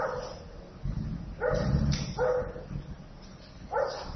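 A small dog barks several times in quick bursts, sharp yappy barks, with a low rumble of background noise between them.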